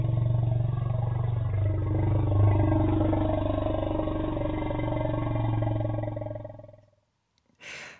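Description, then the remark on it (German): A deep, sustained Asian elephant rumble rolls on for nearly seven seconds, loud, with a throaty, growling texture, then fades out before a brief separate noise at the end. “Das war jetzt ein asiatischer Elefant, von dem wir da so ein Rumblen gehört haben.”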